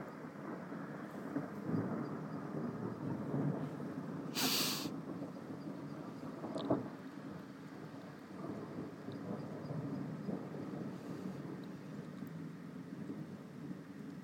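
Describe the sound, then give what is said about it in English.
Low, rolling thunder rumbles steadily after a huge flash of lightning at about twenty to six, with a sharper crack partway through and the soft patter of heavy rain underneath. “there's Barbara's rooster, and there's a huge flash of lightning”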